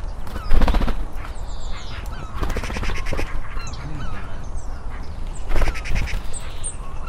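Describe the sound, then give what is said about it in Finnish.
Gulls call in loud, raucous bursts, a harsh cackling that rises and falls in several clusters, with fainter high cries in between over a steady wash of background noise. No one speaks. “Lokit kailantaa. Varmaan lokit taustalla.”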